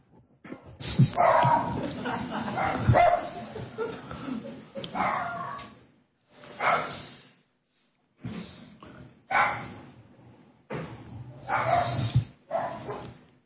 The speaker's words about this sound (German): A little doggy concert. Die haben jetzt auch endlich mal was gefunden, das hat sich aufregen können. Ein kleines Hundekonzert. Finally they have found something to be upset about.